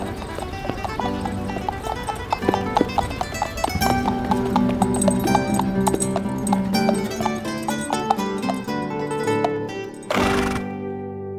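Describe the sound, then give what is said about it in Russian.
A chestnut horse, slightly dancing, clops its gilded hooves on the stones of the pavement in a steady, rhythmic pattern of sharp knocks, layered over continuous music with sustained tones; a brief louder burst of sound comes near the end. “и рыжая лошадь волчицы, слегка танцуя, ставила на камне мостовой вызолоченные в знак победы копыта.”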